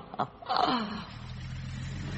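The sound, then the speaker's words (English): A brief breathy, falling sound gives way to a steady, low engine rumble that idles evenly at moderate volume, like a bus engine running. “Hunched in a stairwell as the bus goes backwards and forwards, watching your so-called interpolator.”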